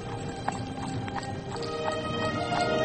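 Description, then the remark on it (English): Horses' hooves clip-clop in a steady, unhurried rhythm, each sharp knock ringing out over a continuous low rumble, like a carriage rolling along. No one speaks. “I'll have the horses seen to.”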